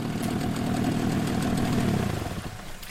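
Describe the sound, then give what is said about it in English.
A small outboard boat motor idles steadily in shallow water, a low, even rumble with a faint knocking pulse that eases off slightly at the very end. “the water's just a little bit too shallow for the outboard motor.”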